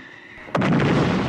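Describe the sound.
A voice imitates a bomb exploding: after a quiet lead-in, a sudden sharp burst erupts into a loud, sustained, forceful rumbling roar that fills the rest of the moment.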